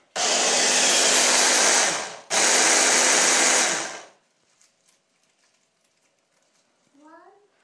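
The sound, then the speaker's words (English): A blender blending peeled garlic whirs loudly in two bursts, cutting out briefly between them, then falls silent before a faint voice murmurs near the end. “And I've put these, and as I'm talking, I've been peeling things, and I've put these into the blender, and I'm just going to blend those now.”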